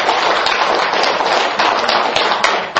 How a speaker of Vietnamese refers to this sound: Cho bác một tràng pháo tay.